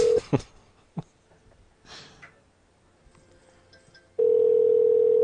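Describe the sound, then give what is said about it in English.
A telephone rings with a loud, steady electronic tone: a short blip at the start, quiet snuffly rustles and a click in between, then a sustained ring running to the end. “I'm pretty sure it's still ringing.”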